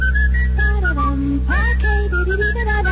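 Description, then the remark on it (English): A person whistles a bright, bouncy jingle melody heard on the radio, with quick rising and falling notes, clear over a steady low hum, with no talking. “Whistling? Gee, I wish I knew.”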